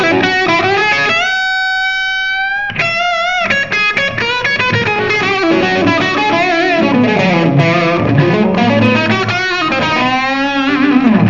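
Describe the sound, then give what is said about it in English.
A bright, overdriven electric guitar on the bridge pickup, with a humbucker-like character, plays sustained, bending notes, then a busy run of phrases, loud and continuous throughout with no voices. “This is front treble. You know, I'm sorry, bridge. And it's, you know what? It's interesting when you're overdriving.”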